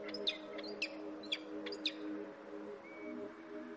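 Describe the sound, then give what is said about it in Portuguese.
Four sharp, high-pitched calls from a pair of peregrine falcons nesting on a sea cliff on the Costa Vicentina in southwest Alentejo, Portugal, ring out at an even, unhurried rhythm, fairly faint, over a steady low droning background, then fade to quiet. “Há várias semanas que temos vindo a apreciar os comportamentos de um casal de falcões peregrinos que escolheu esta falésia para criar descendência.”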